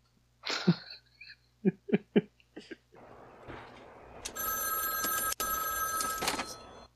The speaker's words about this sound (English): Isn't it funny? You hear a phone ring and it could be anybody. But a ringing phone has to be answered, doesn't it?